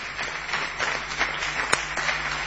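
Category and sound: crowd, audience ovation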